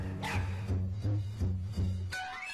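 The dog Sonya barks several times in quick succession over a low, steady hum, each bark fairly loud, followed by fainter repeats of its echo.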